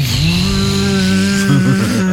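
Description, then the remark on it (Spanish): A voice imitates a camera drone filming at 9 a.m., the hour the city hall permits drone filming, with a steady, loud, motor-like drone held for about two seconds, ending in a wavering warble with pitch wobbles. “Y de pronto uno a las 9 de la mañana sabe que es el horario habilitado por la alcaldía para grabar con drones, no sé, el David de Miguel Ángelo, y se escucha un...”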